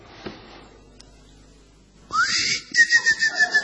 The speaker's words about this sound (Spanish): Un silbar como de boyero. Sí. Es un grillo. Un grillo es. ¿Pero por dónde le suena? Adentro de la oreja.